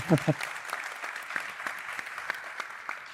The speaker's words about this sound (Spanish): un aplauso para ella también, por favor.